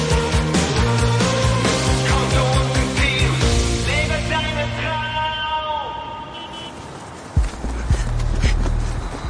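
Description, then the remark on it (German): Quick, rhythmic running footsteps of a boy, the FC Bayern U15 goalkeeper, chasing a bus in Munich slap along in the foreground over a busy musical backdrop, then fade as a low engine-like rumble swells toward the end. “Schnell ist der Junge ja, aber eigentlich hat er keine Chance.”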